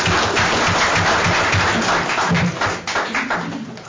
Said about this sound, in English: Tonight is his last meeting. He's been on the Planning and Zoning Commission and served the county for 11 years. So if we could do a round of applause, that'd be awesome.